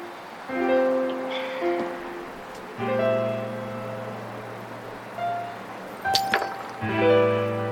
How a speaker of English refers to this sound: Drops the keys.